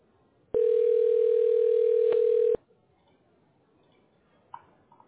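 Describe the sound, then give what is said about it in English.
A single loud, steady telephone ringing tone during a call transfer lasts about two seconds, then cuts off, leaving near silence with a couple of faint clicks. “Call transfer.”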